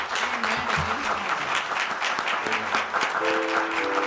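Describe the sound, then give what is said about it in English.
A church audience applauds steadily for two newly elevated deacons, a dense wash of many hands clapping at once, fairly loud and continuous throughout, with a few faint tonal notes sounding underneath. “And if y'all don't mind giving me some help applauding for them right now.”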